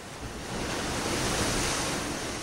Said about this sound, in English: There's something about the power of the ocean